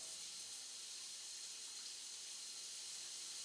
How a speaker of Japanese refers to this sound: じゃあ、シャワーを上げていくよ。ふくらはぎ、膝。どうしたの？シャワーを足に当ててるだけなのにガクガクしちゃって。